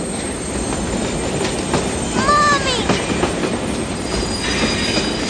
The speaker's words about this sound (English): Daddy, Daddy, I hear the train. It's coming. Caillou was very excited. But as he watched the train getting closer, he began to feel a little scared.